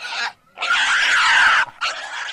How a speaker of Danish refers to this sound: Lyden af svinets skrig, når de skærer pulsåren over med flintekniven og blodet sprøjter ud. Så går han altid lidt væk og holder sig for ørerne. Så rives han ud af sine tanker, for der er det, grisens hyl.